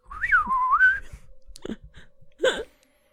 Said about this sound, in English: Oh, I'm just going to whistle the song. I wrote it myself.